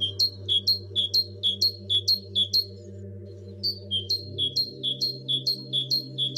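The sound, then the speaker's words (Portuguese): A great tit sings its bright, repeated two-note phrase in quick rhythmic series, pausing briefly midway before resuming, over a steady low hum, by the Mata do Camarido woods. “Os chapins cantam muito e cantam bem.”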